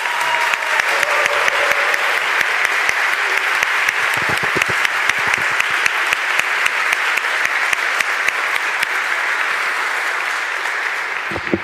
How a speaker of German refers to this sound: Aber selbst die ELCA aus Amerika unterstützt die Arbeit von United for Rescue. Das ist mal ein Applaus wert.